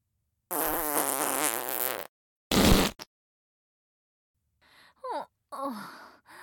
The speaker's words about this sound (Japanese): 少しすっきりした。このボリュームのおならを部屋でするのは少し躊躇してたのよ。